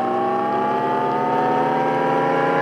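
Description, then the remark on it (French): The artificial driving sound made for a Jaguar electric car: a smooth, sci-fi hum of layered tones that slowly rises in pitch like accelerating, steady and fairly loud, with no talking. “Donc, les voitures Jaguar, ils ont révélé le bruit qu'ils allaient faire.”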